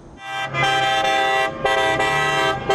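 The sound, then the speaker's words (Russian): Car horns honk in celebration as residents of Iraqi cities celebrate the government forces' victory in Mosul on a Monday evening: long, loud, overlapping blasts, nearly continuous for a few seconds with a brief dip in the middle, with no one talking. “Гудящие машины, ликующие люди, фейерверки и национальные флаги.”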